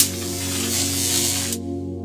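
A steady electrical hum with a loud, crackling sizzle on top as an infected runner hits an electric fence and his skin fries. The harsh hiss cuts off abruptly after about a second and a half, leaving only the low hum.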